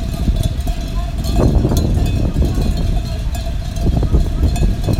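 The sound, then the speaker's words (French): Small bells on many newly arrived sheep grazing in the countryside clink irregularly in overlapping, tinny rings over a steady low rumble, with no bleating. “Bon, on les entend pas bêler, on entend juste leur clochette.”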